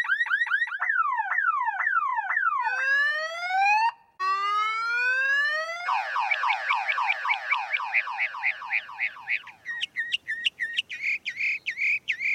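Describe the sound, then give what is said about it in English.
A mockingbird mimics a car alarm, cycling loudly through wavering up-down warbles, repeated rising whoops, a rapid chattering trill, and finally a string of sharp beeps, with no one talking. “The particular mockingbirds that we have at times will sound like car alarms with the rising and falling tones and the beep beep.”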